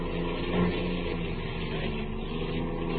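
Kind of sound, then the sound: vehicle, car engine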